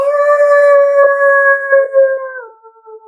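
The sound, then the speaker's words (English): A person imitates a coyote howl, one sustained, steady wavering note held for about two seconds before sliding downward and fading out, loud with no other sounds. “it's like you may hear what you hope are wolves, but in fact are coyotes. And we'll try to demonstrate.”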